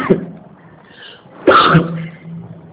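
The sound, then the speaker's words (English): A single loud, explosive cough from someone who is talking bursts out, preceded by quiet background murmur and trailing off with a short rasping tail. “When I talk, this cough comes.”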